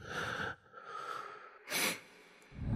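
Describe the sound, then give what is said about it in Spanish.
Slow, heavy breathing of an unseen presence, with several airy inhales and exhales in an uneven rhythm, one sharper and louder than the rest, and no voices. “Sientes su presencia, su respiración.”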